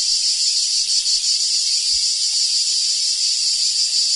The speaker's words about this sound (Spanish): El cant de la Chicharra, música i desfici en UPV Ràdio.